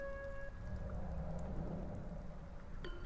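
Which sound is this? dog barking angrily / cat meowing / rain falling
rain falling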